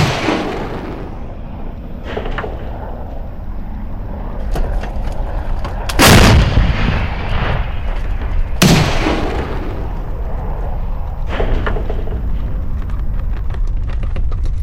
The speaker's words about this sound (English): And we heard the explosions, we saw the furniture jumping in our house, we saw the glasses trembling,